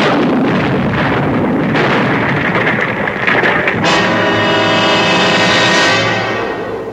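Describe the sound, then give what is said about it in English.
A loud, roaring explosion fills the scene with a dense, sustained blast of noise, then gives way to a deep, ringing rumble that lingers and slowly fades. No voices. “When suddenly there was a flash of light and a loud explosion.”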